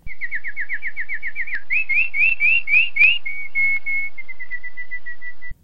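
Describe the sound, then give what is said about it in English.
A bird sings a clear, whistled song alone: a fast run of repeated rising notes, then brighter upward-swept phrases, ending in steady held tones that fade slightly. “Billy sang a beautiful song.”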